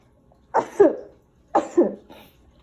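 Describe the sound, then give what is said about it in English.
Two sneezes about a second apart, each a sharp, noisy two-part burst that quickly fades, with quiet between them and no talking. “I have to sneeze.”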